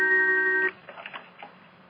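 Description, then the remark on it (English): A steady, buzzy electronic phone ring tone sounds for under a second, then cuts off abruptly, leaving a few faint bumps and soft clicks. “Is that somebody calling us?”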